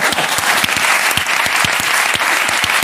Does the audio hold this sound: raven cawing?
no